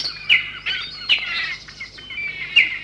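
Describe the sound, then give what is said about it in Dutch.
Several small songbirds sing and chirp together in an aviary in a dense, overlapping chorus of high twittering notes, with a few brighter calls standing out, steady throughout. “Dieren die elkaar iets vertellen, zoals deze zingende vogels dat doen in het vogelhuis.”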